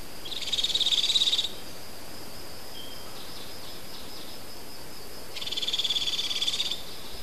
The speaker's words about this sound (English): The sixth clip is the cricket-like trill of an owlet begging for food from the nest hollow.